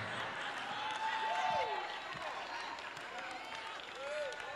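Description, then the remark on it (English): An audience shouts loudly in a dense, sustained roar of many voices, with individual cries sliding up and down in pitch above the steady crowd noise. “Y'all shouted too loud on that one, y'all.”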